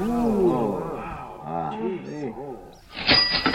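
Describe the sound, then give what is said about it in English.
Outdoor wild birds calling: a few thin, high chirps come through over low, throaty vocal sounds, then a dense, bright burst of twittering birdsong swells up loudly near the end. “The bird life also is spectacular, as you can probably hear where I'm standing right now.”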